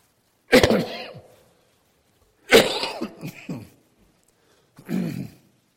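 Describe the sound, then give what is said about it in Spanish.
Three loud coughs into a microphone, spaced a couple of seconds apart, each a harsh burst that trails off, with silence between them and no talking. “Ustedes van a perdonar, voy a toser y con el micrófono la tos se va a ver, va a sonar más fuerte de lo que actualmente es, pero de todos modos está controlado.”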